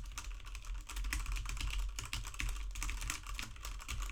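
Rapid, steady typing on a mechanical keyboard with Cherry Red switches, done to test a microphone's sensitivity to ambient noise, a continuous stream of soft clacking keystrokes lasting the whole stretch, with no voices.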